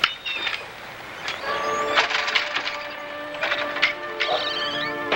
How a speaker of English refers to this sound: He kicks a chair over and leaves the tavern.